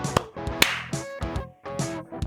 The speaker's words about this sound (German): Wenn du geklatscht hast, dann hat es geklappt. Cool. Möchtest du anfangen? Das ist unser regelmäßiges Ritual, bevor wir den Podcast aufnehmen. Wir klatschen in die Hände.